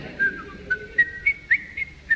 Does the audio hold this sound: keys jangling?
no